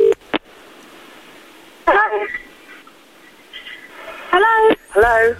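Telephone dialing and ringing: a quick tap, then a few short bursts of electronic phone tones spaced a couple of seconds apart, clear against a faint background hiss.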